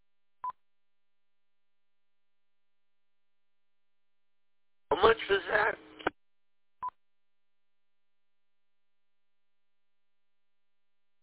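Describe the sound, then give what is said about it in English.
Two short, clean telephone keypad tones sound several seconds apart as someone dials a phone call, clear, with a brief spoken question from a person between them and silence elsewhere. “Hang on, I got a phone to call.”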